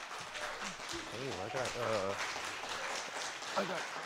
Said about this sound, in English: You get clapped for it. You got actually standing ovation from everybody here in the studio.